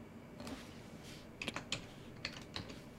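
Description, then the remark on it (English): Quiet typing on a computer keyboard with a sticky key, a handful of sharp key clicks in irregular bursts over a faint background hum, with no voices. “Yeah, my typing is the problem. I've got a keyboard with a sticky, I think with a sticky key that doesn't always type, which is a bit frustrating.”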